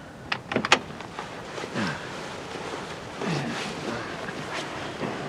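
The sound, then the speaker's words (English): A car door opens so someone can be put on the back seat: a quick cluster of sharp latch clicks, then soft creaking and rustling movement over a low, steady background hiss, with no one speaking. “Let's put her on the back seat. Open the door.”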